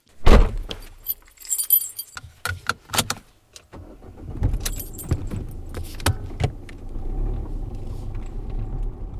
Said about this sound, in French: Aujourd'hui, direction le Mas de Val pour voir la sortie de résidence de la compagnie La Joie Errante pour leur création Vacarme ou comment l'homme marche sur la terre. Allez, montez en voiture, c'est parti!